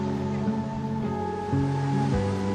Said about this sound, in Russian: И чем лучше вы слышите морской прибой, тем спокойнее на душе.